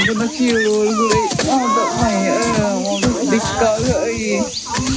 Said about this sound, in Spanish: Esto que escuchas es la selva amazónica brasileña. Entre la multitud de aves que se escuchan y entre los árboles frondosos viven los miembros de la tribu Yanomami.